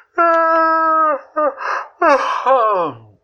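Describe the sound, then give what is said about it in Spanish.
A voice imitates a yawn: a long drawn-out vocal tone, a breathy gasp, then a loud sighing moan that slides downward in pitch, clear with no other sounds. “A los pocos minutos, Julio estaba bostezando.”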